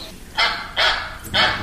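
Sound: duck quacking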